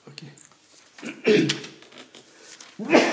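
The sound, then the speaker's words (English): A loud, sharp sneeze bursts out after some quiet murmuring, and a second forceful burst follows a moment later. “Bless you.”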